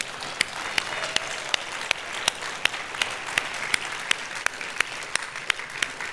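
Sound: audience clapping hands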